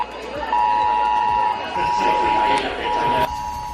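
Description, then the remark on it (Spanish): A reverse 112 emergency alert on mobile phones in La Roda, Albacete, Castilla-La Mancha, at about 10 in the morning, blares a steady, piercing electronic tone in three long bursts with short gaps, sounding over a rough wash of background noise. “Es una alerta del 112 inverso anunciándoles una emergencia.”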